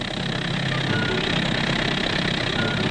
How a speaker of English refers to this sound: By now, the street wasn't wide enough for the traffic load, so...